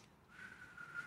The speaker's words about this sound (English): Let me try. See who can do it best. If you can't whistle better than me